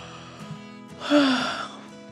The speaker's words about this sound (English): Fish Five opened his mouth wide and yawned.